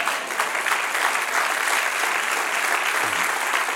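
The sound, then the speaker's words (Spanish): An audience applauds together during a Spanish-language sermon, a steady, dense wash of clapping from many hands that holds at an even loudness for several seconds without pause or spoken voices. “Dale un aplauso al que reina.”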